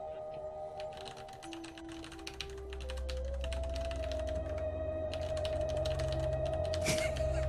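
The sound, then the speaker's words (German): Rapid clicking of keys on a computer keyboard, typed in quick irregular bursts over a steady low electronic hum, with a brief pause near the end. “Das Tippen. Sehr lustig.”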